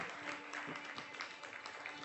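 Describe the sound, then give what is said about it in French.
An audience at the Festival Alors Chante in Montauban, broadcast live on CFM Radio, applauds a musician guest with dense, steady clapping that holds at an even, moderate loudness for the whole short stretch, many hands blending into a continuous patter. “Applaudissez,”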